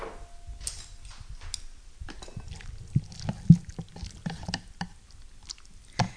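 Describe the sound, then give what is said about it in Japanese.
Soup is poured onto a plate in irregular wet splats and soft squelches, with a few sharper clinks of a utensil against the dish, fairly quiet and without any talking. “さあ、じゃあこれを、味もですね、今食べた感じではもうかなり塩味もしっかりついてて大丈夫なので、このままお皿に移したいと思います。”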